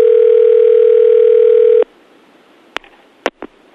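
A telephone ringing tone on a prank call sounds once as a steady, fairly loud buzz lasting about two seconds, then cuts off, leaving near-silence broken by a few short clicks.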